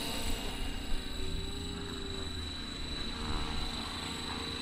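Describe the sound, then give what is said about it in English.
A radio-controlled model helicopter doing a nose wheel takeoff at an RC helicopter event, its engine giving a steady, high-pitched buzzing whine with a low rotor drone beneath, holding constant throughout. “And here's your nose wheel takeoff.”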